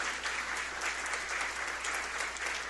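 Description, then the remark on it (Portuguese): Steady applause from an audience at a municipal council ceremony, welcoming the first vice-president of the Câmara Municipal to the head table, a dense wash of clapping hands that stays even and fairly loud for a few seconds with no voices on top. “Uma salva de palmas.”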